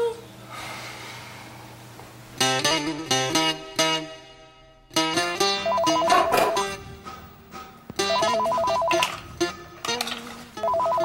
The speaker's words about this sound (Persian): فکر میدونی من پام درد میکنه، بیا این تلفن رو جواب بده.